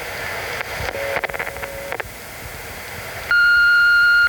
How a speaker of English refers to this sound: Please leave your poem after the beep.